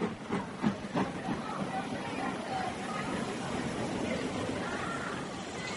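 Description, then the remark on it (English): A steady, loud wash of hissing steam and rumbling station noise from a crowded train to Adelsfield at platform number 7 at Christmas, with a few clanks early on and indistinct voices underneath. “Train's pretty crowded. Not a seat anywhere, sir.”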